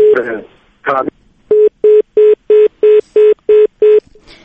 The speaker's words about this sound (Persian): متاسفانه تماس تلفنی ما با آقای ستانکزی قطع شد.